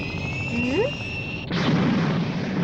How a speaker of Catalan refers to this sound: La nau engega els motors i surt disparada.